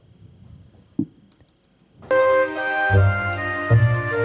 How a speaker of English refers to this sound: Listen to the, there is some reverb at the beginning of the song.